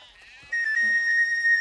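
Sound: sheep and goats bleating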